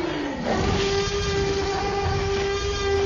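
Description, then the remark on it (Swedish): The Tyrannosaurus rex roar from the first Jurassic Park film, a blend of five different animals edited together in a studio: loud and sustained, holding one steady, droning pitch over a rough, rumbling growl for about three seconds, with no talking. “Jo, då är det så här att det här lätet som vi precis hörde då, det är en blandning mellan 5 olika djur som man har då klippt ihop i en studio.”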